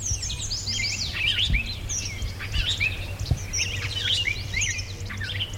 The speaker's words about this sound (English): No, we're still at Dino. Oh, very good. Yep. Okay, we're hearing a robin just doing that beautiful cheery-up, cheerio thing. And the buzzy clay-colored sparrow.